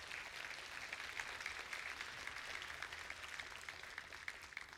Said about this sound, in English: So I want to ask you today, before we move any further, if you have experienced the healing of Jesus either in your body or in your life, would you applaud and let people know that Jesus is still working?